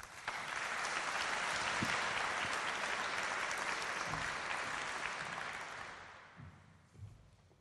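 An audience claps steadily, a dense wash of applause holding strong for about six seconds, then thinning out and fading as a few last claps trail off.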